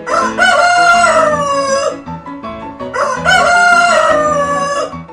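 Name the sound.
rooster crowing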